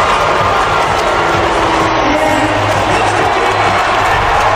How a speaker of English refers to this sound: And then cheering for Patrick. Yeah, it wasn't as bad as it could have been.